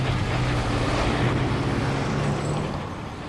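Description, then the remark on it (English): Dump trucks and cranes work on a housing construction site beside a playground, behind cyclone fencing, preparing the ground for new houses: engines drone steadily, a low diesel rumble with hissing, wind-blown noise that eases slightly toward the end. “Right next to the playground, behind some cyclone fencing, there are cranes and dump trucks preparing the site for the latest houses to go up.”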